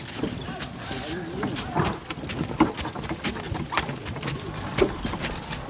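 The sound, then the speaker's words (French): Several horses carrying riders walk steadily, their hooves clip-clopping in an uneven rhythm of sharp knocks over a continuous outdoor rustle, with faint murmuring voices in the background. “Il ne faut pas qu'on parle, il faut laisser les chevaux marcher.”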